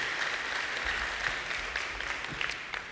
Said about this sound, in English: Hey, let's give a big hand clap to our bubblegum dispensers.